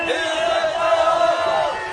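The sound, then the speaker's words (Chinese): A large crowd cheers and shouts together, mixing curses against the imperial court, corrupt officials and nobles into their cheering; a dense, steady roar of many raised voices that holds at a loud, even level for the full two seconds. “现在看到查士丁尼大帝属于蓝队那边，就开始在加油声中加进骂朝廷话。”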